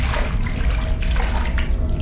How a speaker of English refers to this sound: I could barely see, just the faint glimmer of the rope leading back up, and somewhere, the soft ripple of something moving in the water.